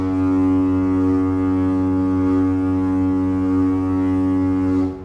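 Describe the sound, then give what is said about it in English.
A single long, deep foghorn blast drones steadily for several seconds, loud and rich with low harmonics, then cuts off abruptly at the end with no voices present. “We all know what a foghorn sounds like, right? It's something like this.”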